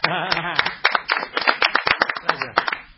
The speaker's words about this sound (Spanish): Un aplauso.